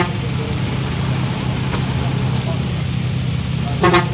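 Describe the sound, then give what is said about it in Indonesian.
Heavy road traffic in a traffic jam rumbles steadily, engines idling and moving as vehicles resume their journey after rain, then a single short car horn honks loudly right at the end. “Wah, jalannya jadi macet ya, Bu?”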